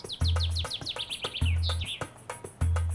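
bird, birds chirping

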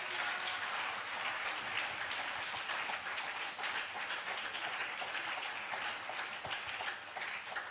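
crowd, audience clapping hands

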